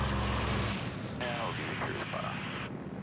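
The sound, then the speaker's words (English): A DC-4 propeller airplane engine roars loudly and steadily, a deep throbbing drone at first giving way to a dense, rushing wash of engine and wind noise. “The DC-4 is a major upgrade.”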